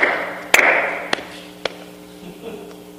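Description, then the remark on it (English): Three sharp hand claps at a slow, slightly uneven pace, the first loudest and the next two softer, over a low steady hum with no talking. “Hey, you know, when I start my hands like that, I don't clap like this.”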